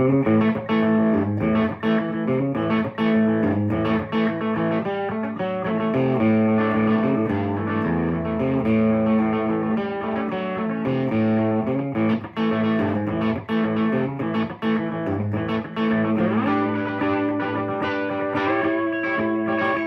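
A used offset electric guitar plays a steady run of effects-laden, slightly distorted chords and notes, loud, continuing for the whole stretch with no voices over it.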